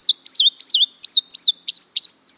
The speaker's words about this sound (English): First, I heard the buzzy, goldfinch-esque phrasings of a male indigo bunting from the top of some oak.